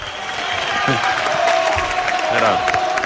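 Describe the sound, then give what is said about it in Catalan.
A large crowd gives a loud, sustained ovation for Fridolina Rolfo, the goal scorer, with dense applause and cheering filling the space and individual voices shouting through the roar. “Home, Fridolina, Rolfo, l'autora del gol, Mira l'ovació.”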